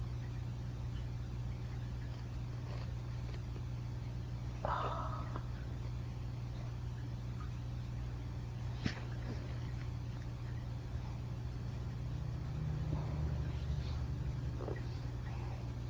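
car engine running

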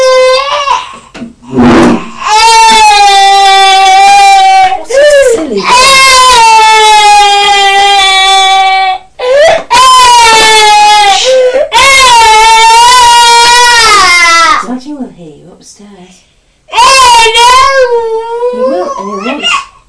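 young child crying

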